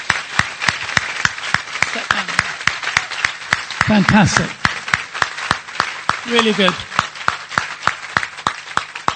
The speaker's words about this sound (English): Amen. Amen. Yeah, claps. Great, isn't it?